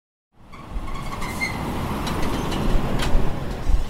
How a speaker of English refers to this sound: What's the truck we're riding called? Buster. Buster, okay. A couple of weeks ago, I went down to South Florida for a road trip in a self-driving truck.